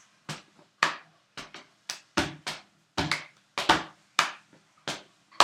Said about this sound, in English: So, are we ready? Yeah! Yeah! Are you going to start doing your clap? Yeah! Right, you start and I'll say.